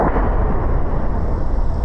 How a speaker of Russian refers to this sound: Так звучат авиабомбы на Авдеевском направлении. Ну, коли часто, коли не часто. Ну, сейчас уже за цей, там, будем казать, час, это уже нормально прилетело. Разрывы довольно далеко и не мешают украинским артиллеристам.